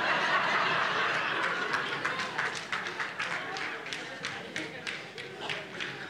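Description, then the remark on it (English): A crowd laughs and claps together, with scattered, uneven hand claps rising over a steady wash of audience chuckling that gradually thins out. “Don't be doing that. don't applaud that.”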